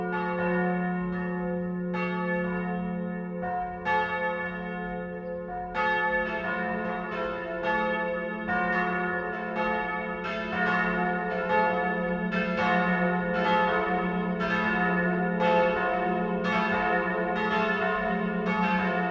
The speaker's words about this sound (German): Es ist 12 Uhr. Das Mittagsläuten kommt heute von der Pfarr- und Klosterkirche Mariä Himmelfahrt im niederbayerischen Windberg.